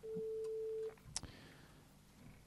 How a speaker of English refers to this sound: The phone is ringing.